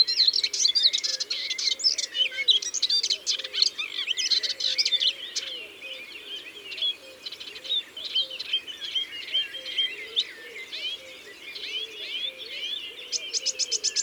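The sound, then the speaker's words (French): A songbird imitates a blackbird's alarm call within a rapid, continuous stream of chattering, whistled song, fairly loud, with no voices. “Ça, c'est une alarme de merle.”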